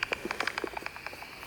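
Rapid, uneven clicks and chirps from a bat detector set to 60 kilohertz, as several bats fly among the trees at dusk: a flurry of short dry ticks and brief pitched blips over a faint hiss, with no voices.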